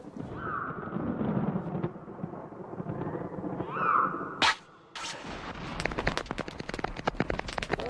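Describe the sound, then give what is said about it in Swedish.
A thunderstorm approaches quickly: low rumbling builds steadily, then two sharp, loud thunder cracks split the air, followed by dense crackling and pattering like heavy rain arriving. “Ovädret närmar sig snabbt.”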